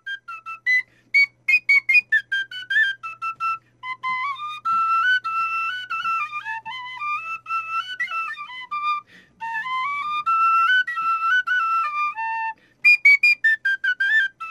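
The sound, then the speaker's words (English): A little rusty tin whistle plays the Swallowtail Jig alone, bright notes bouncing in quick triplet-like runs with short breaths between phrases, fairly loud and clear throughout. “That was just a little rusty tin whistle played by me, and that was Swallowtail Jig.”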